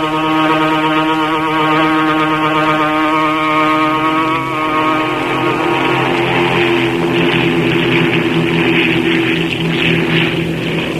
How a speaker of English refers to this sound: Aboard the eastbound transport plane.